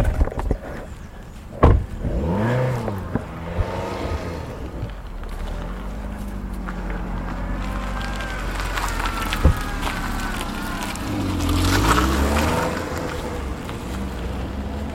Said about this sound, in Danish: Så snart jeg træder ud af vores bil med min mikrofon i hånden, så vender den røde Kia rundt, ikke mere en meter fra mig, og kører hurtigt væk.